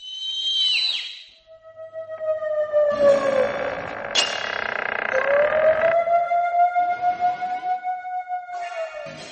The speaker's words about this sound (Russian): А ну-ка, заткните уши. Зачем? А потому что от драконьего свиста запросто можно оглохнуть. Сейчас буду свистеть. Ой. Пыхалка вылетел на балкон, надулся и как свистнет.